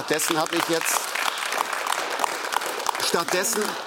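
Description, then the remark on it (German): An audience claps steadily throughout after a question is put to a speaker, a dense, continuous patter of many hands, while a man's voice speaks over it briefly at the start and again near the end. “dass ich bei Fragen, wie Sie sie gerade gestellt haben, hier das Publikum erlebe, dass es applaudiert”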